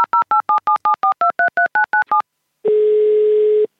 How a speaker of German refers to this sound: Schnell zückt er sein Handy und wählt den Notruf.